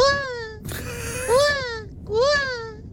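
A baby cries in loud wailing bursts: a first cry, a brief rough breathy gasp, then two more drawn-out cries that rise and fall in pitch.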